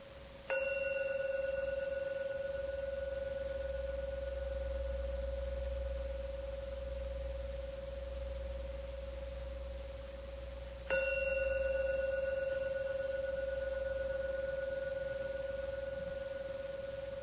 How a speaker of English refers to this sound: I'm now going to ring the gong 3 times. Please don't open your eyes until the last gong finishes. Don't waste this beautiful opportunity just with your eyes closed and listen to beautiful sounds and let the last ringing take you out.